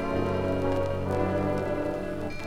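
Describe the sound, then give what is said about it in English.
Steady rain swishes continuously over a low, sustained droning hum, the wash of water holding an even loudness throughout with no voices. “Like the empty sounds of morning, the painful swish of rain, and the desperate hum of motors.”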